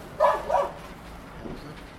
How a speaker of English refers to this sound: It's a dog.